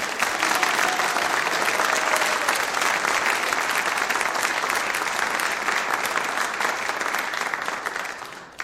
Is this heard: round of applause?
yes